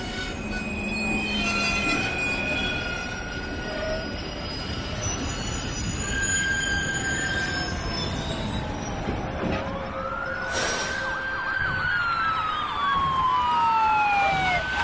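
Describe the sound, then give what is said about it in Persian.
The 6:25 train, carrying over 300 people, rumbles steadily along the rails while its wheels screech in high, drawn-out squeals that rise and fall, loud, with no talking. “باید قطار رو تخلیه کنیم، ممکنه یه بمب تو قطار باشه.”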